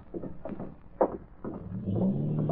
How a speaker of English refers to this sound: Jig, I hear a car starting outside.